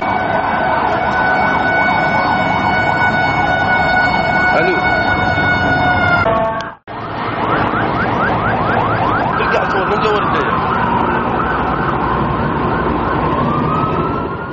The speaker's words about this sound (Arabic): سيارات الإسعاف هرعت إلى مواقع التفجيرات.